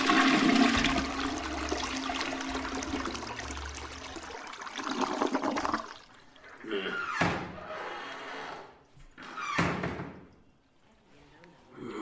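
A toilet flushes loudly, a rushing swirl of water for about five seconds that drains away, followed by a few sharp knocks and thuds like a lid or door banging.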